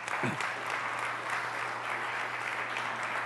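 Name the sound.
church audience applause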